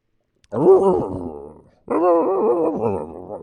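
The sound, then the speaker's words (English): Someone mimics with their voice the grumbling whine a dog makes when impatient to go out for a walk: two drawn-out, wavering bursts separated by a short pause, the second longer, fairly loud. “You know how dogs talk to you.”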